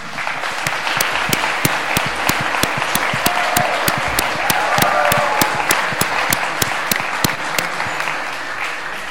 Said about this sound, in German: Und auf jeden Fall hier schon mal großer Applaus auch für die zweite Runde.